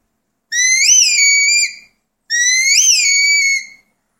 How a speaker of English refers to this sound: And I like to use a high tone for one direction and a low tone for the other direction so as not to confuse the dogs. Okay, we'll start with the come-by whistle. This is in a low tone.